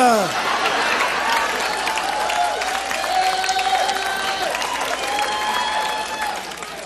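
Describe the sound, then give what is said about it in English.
A big round of applause, loud and steady throughout, while a man's voice cheers and enthusiastically screams "yes" over the clapping crowd. “Boy, I think I just realized that guy screaming yes with that huge round of applause, I think that might have been room H.”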